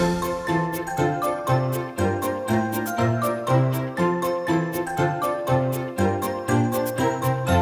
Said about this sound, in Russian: Погремушку раз, два, три, ну-ка в ручку ты возьми, а теперь-ка поскорей спрячь за спинку от друзей.